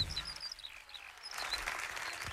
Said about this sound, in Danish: En syg fugl, det der. Nej, den er bare langt væk. Men er det en lærke? Er du sikker på det? Det er en sanglærke.